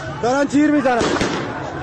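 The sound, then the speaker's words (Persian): A few sharp gunshot cracks ring out amid street noise during a street protest in Borujerd, Lorestan, Iran, on 23 Ordibehesht 1401, spaced irregularly over a couple of seconds, partly overlapping a raised, shouting voice. “دارن تیر میزنن 23 اردیبهشت 1401 بروجرد، شهرستان بروجرد، دارن تیر میزنن.”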